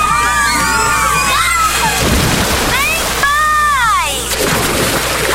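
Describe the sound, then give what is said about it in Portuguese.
Busy water park ambience: children shriek and shout in high, sliding cries over a steady wash of splashing water, with occasional loud sloshes and a crowd murmuring throughout. “Acabou de ouvir alguém criando memórias. Áureas Parque. Vem aí um mega parque aquático com piscina de ondas, praia artificial, toboáguas”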